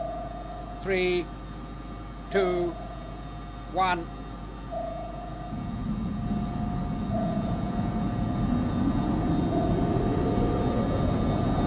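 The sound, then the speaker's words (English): A rocket motor's thrust kicks in abruptly partway through in a short burst for takeoff from a low-gravity asteroid, a loud, steady low roar that holds to the end. A few short spoken calls and a faint hum come before it. “Stand by for takeoff. Don't overdo it, Jet. The gravity pull of this asteroid's virtually nil. Just a short burst in 5 seconds from now.”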